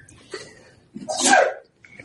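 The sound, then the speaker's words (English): A single sharp sneeze bursts out after a brief breathy intake, loud and explosive, then trails off into quiet. “Bless you.”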